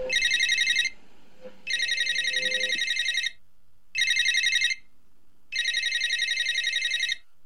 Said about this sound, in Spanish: Suena el teléfono.